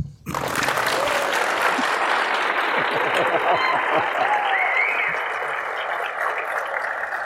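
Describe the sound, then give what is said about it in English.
Sustained audience applause at a reception in the Adam Room of the Chateau Laurier Hotel in downtown Ottawa, a dense, steady wash of many hands clapping that holds at a loud level for several seconds, with a few faint whoops or voices mixed in. “But I'm going to ask you to clap again in a second.”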